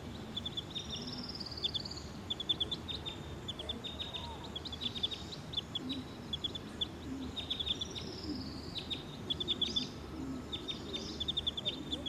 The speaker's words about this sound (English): Stop. Recording 302. Stop. Recording bird 302.